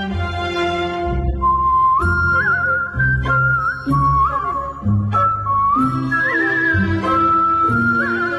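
A clear whistled melody soars over a gentle instrumental accompaniment with steady bass notes, the tune gliding and sustaining its phrases in a close, loud, musical performance.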